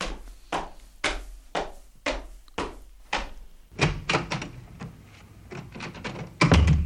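Repeated sharp knocks on the wooden door of a friend's house, struck in an uneven rhythm of roughly a dozen raps, loud, with a heavier thump near the end and no talking.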